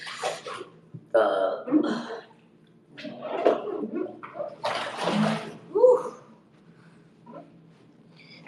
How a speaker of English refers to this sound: Do you guys hear the sound of the water? I'm not sure if you guys can hear that.